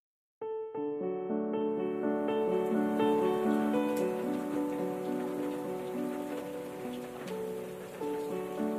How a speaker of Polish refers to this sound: Jest rzeczą prawie pewną, że w czasie deszczu dzieci się nudzą. A tego dnia padało po prostu okropnie.